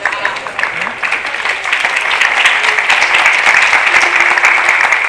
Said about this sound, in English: And all the boys are clapping, and Sridhar stands up to receive his applause.